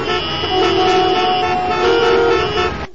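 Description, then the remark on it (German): Busy street traffic with several car horns honking, sustained and overlapping, fairly loud, with a steady rumble of engines underneath before it cuts off abruptly. “Steht wie immer schlechter, zähflüssiger Verkehr auf allen Straßen.”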